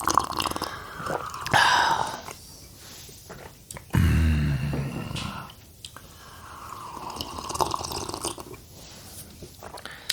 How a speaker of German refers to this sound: So, jetzt hast du aber genug geschlürft. Dieses saftige Schlürfgeräusch wurde Ihnen präsentiert von Krups Aroma Plus.